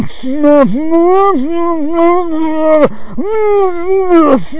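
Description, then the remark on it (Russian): A voice loudly imitates someone blowing their nose in a cafe in Germany: a few long, droning, honk-like blasts with wavering pitch that dip and restart, running almost continuously for several seconds. “Громче всех могут сморкаться в ресторане, допустим, или в кафе.”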